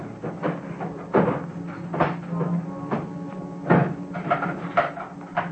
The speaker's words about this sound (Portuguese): Se me permite, eu mesmo derramo o conteúdo da gaveta sobre a mesa.